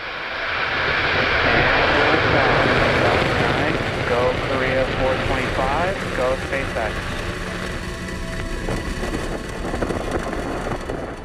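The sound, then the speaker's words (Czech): A Falcon 9 rocket launches from pad SLC-4E in California, its nine Merlin engines ignited, bound for polar orbit carrying a South Korean infrared Earth-imaging telescope: the deep, steady roar rumbles loudly and continuously, fading slightly over time, while a voice talks over the noise. “prosince se na kalifornské rampě SLC-4E zažehlo 9 raketových motorů Merlin. Raketa Falcon 9 mířila na polární oběžnou dráhu.”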